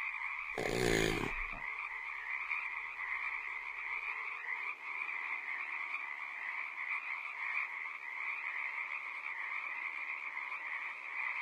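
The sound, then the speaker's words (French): A dense, unbroken chorus of many frogs croaking steadily throughout, with a lizard also heard now and then, a brief loud burst of noise near the start and no voices. “Ouais, en fait, y a pas que des grenouilles, de temps en temps on entend aussi un lézard.”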